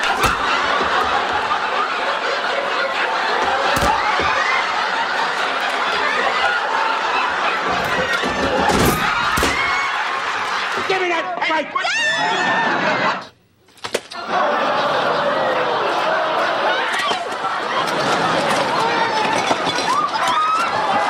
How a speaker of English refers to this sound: The turkeys are hitting the ground like sacks of wet cement. See, folks, I don't know how much longer the crowd is running for their lives.